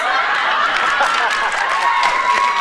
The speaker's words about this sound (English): Again, another applause. Another one. Every time.